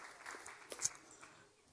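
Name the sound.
audience cheering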